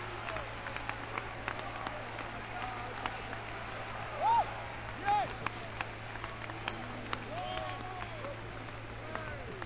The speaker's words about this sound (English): Give the Lord a good hand clap. Come on, all the way to the balcony.